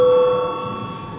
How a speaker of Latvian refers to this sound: Lūdzu zvanu.